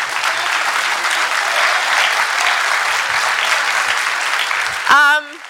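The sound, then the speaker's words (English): An audience applauds to thank the speaker, a steady, dense wash of clapping that holds at an even loudness for about five seconds before a voice briefly cuts in at the end. “I will applaud as well.”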